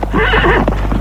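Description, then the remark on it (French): A horse ridden by a woman whinnies loudly, its neigh rising and wavering over the steady clip-clop of hooves, all within one short burst with no one speaking. “je dépasse avec une grande belle amazone à cheval.”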